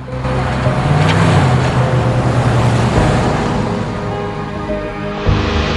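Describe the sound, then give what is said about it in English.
A truck's engine rumbles steadily, a broad roar of motor and road noise that eases slightly toward the end as the truck reverses out of a drive and drives away. “She watches him as he drives away.”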